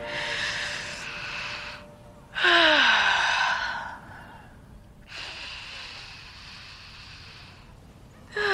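Slow, deep breaths taken into a phone: about four long, loud, whooshing inhales and exhales separated by short pauses, one ending in a voiced, sighing tone.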